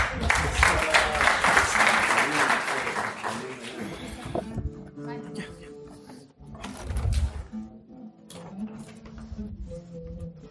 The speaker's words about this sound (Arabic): إذن مع اللحن، مع الصوت، مع الوتر، مع الفن بأحلى صور، صفقوا وهللوا ليطل القمر.